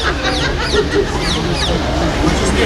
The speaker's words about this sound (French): Ils sont attaqués par une oie là-bas. Ils se font pincer les fesses par une oie, ceux qui vont dans le Jourdain.